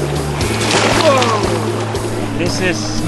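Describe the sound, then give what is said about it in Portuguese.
Water sloshes and splashes steadily at a public swimming pool, a favorite place of Icelanders, on a cold, sunny Saturday, the water heated to 40 degrees Celsius, with a low constant hum and indistinct voices of people chatting in the background. “Isso aí é uma piscina pública, num sábado frio e ensolarado.”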